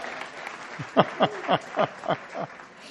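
A church audience applauds, a steady wash of clapping with about six sharper, louder claps standing out in a loose rhythm; no one speaks over it.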